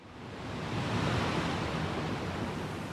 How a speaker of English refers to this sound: The film starts with waves crashing against a steep rock formation.